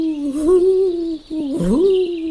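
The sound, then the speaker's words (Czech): An owl flying in gives a long, wavering hoot, fairly loud, pausing briefly before a second sliding hoot. No one speaks over it. “A tady přilétá zahradní správce. Sova Sofie. Má to tady celý na starosti a letí nás přivítat.”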